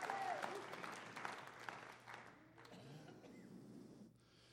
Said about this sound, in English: Give the Lord a hand clap of praise if you will.